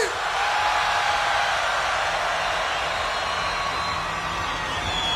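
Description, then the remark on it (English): A huge festival crowd at UltraFest 2017 screams and cheers on a count of three in a continuous, dense roar, loud and sustained from start to finish with no pauses. “1, 2, 3, fucking scream!”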